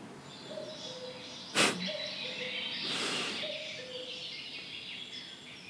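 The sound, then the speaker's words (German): A cuckoo calls three times, each a soft two-note descending phrase, faint beneath a steady hiss, with a brief sharp burst of noise between the first and second calls. “Nö, der Kuckuck muss warten.”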